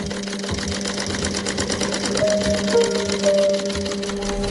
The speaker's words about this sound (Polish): To zaczynamy przyszywanie naszej łaty do materiału. Trzeba równiutko trzymać i uważać na palce.